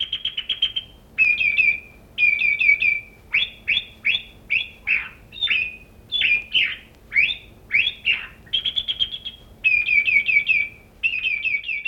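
A thrush sings loud and clear, pouring out a steady run of bright, repeated whistled phrases with short pauses between them, with no voices present.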